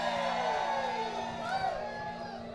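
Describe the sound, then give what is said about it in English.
A large crowd at a live show in Buffalo cheers and whoops continuously, a dense roar of many voices with rising and falling shouts layered over a steady wash of noise, loud throughout. “That's a damn good-looking crowd right there, I gotta say.”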